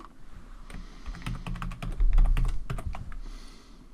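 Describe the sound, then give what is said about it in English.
Rapid clicking of keys on a computer keyboard, a steady run of crisp keystrokes with no voices, building slightly louder midway before tapering off. “Remembering, of course, that it's an American keyboard, and so you need to either map your keyboard knowledge to the American keyboard or use the virtual keyboard available in commands.”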